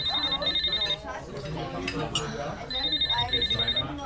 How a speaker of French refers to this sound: On avait dit pas de téléphone, chéri. Pas de téléphone intempestif.